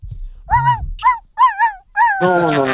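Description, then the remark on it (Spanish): A person imitates a dog, letting out a quick series of four or five yelping barks that end in a longer, drawn-out howl-like cry, loud. “De ladrar, se me hace, que son de perro los tacos, oiga.”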